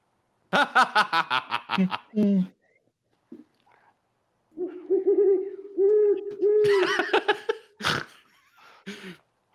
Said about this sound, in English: It's that owl from Puppet Shark.